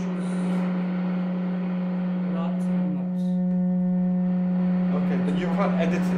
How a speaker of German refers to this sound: Ah, and then you have the white noise. Und dann gibt es weißes Rauschen.